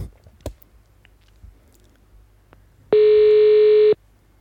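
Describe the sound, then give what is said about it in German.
A single loud, steady telephone ringback tone sounds for about one second, then cuts off, preceded by a few faint clicks and rustles in an otherwise quiet line, as a call is placed to someone in Offenburg. “Dann versuchen wir ihn mal in die Leitung zu bekommen.”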